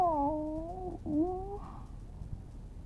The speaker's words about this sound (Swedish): Jaså, där ligger du under spisen och klagar din nö, katta lilla.